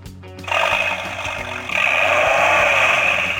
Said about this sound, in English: That sounds like a Viper. It is a Viper.